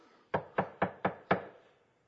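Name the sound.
knocking on a door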